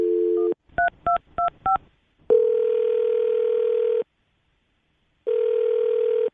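A brief dial tone and four quick keypad beeps as a woman's phone number is dialed, then a steady, fairly loud ringback tone on the outgoing call, pausing and starting again as the line rings.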